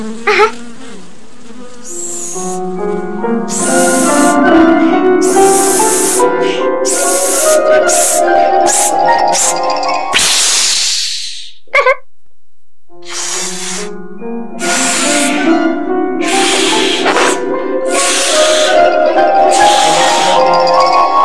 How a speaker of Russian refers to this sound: Надувай шарик. Ага.